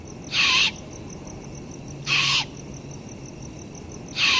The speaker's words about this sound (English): Young great horned owls make a similar raspy call for their whole first year of life.